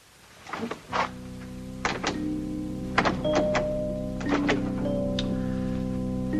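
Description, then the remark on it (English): A door being locked: a handful of sharp mechanical clunks and clicks spaced irregularly over a steady, low humming drone, with no voices. “You've locked the door.”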